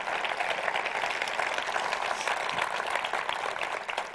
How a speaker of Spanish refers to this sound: ¡Amén! ¡Amén! Dale un aplauso. ¡Dale, dale, dale!